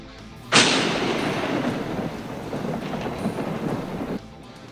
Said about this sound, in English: at one point you actually can hear when lightning strikes right near our yard in the back several times, knocking things loose, but yet we kept the boat afloat.